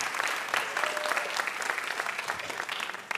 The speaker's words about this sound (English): Thank you so much, Mike Pesca. Give him a huge round of applause for coming all the way down to join us.